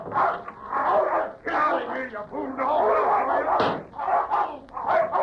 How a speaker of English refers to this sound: Get out of here, you fool dog!